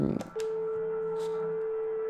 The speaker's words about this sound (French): Le moment où le téléphone sonne est particulièrement ce moment où l'absence est un peu comblée.